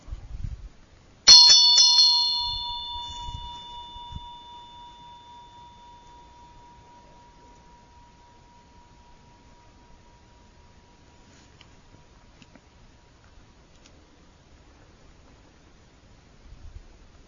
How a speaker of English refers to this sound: So that's the Vajra. That's the bell.